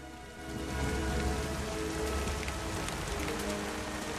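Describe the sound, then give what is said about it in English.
Steady rain falls without pause, a dense, hissing patter on a surface with a low, constant rumble beneath it. It swells slightly after the first moment, and no voices are heard. “Jack kneels in the rain beside Flicka, stroking her head.”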